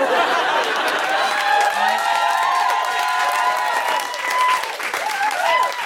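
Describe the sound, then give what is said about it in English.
A crowd claps steadily and loudly throughout, with whoops and cheering voices rising above the dense patter of hands and a brief dip before swelling again. “If you're not clapping, we can see you.”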